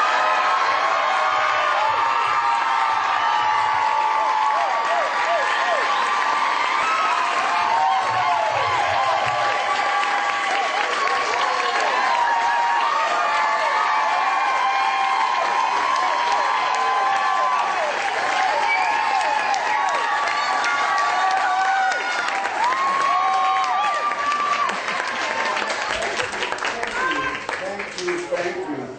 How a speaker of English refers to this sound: He is a real hero, and it's such an honor for us to be presenting the Compassionate Leadership Award to Bob tonight, to recognize his work on behalf of animals. So please give the biggest round of applause you've ever mustered for Mr. Barker.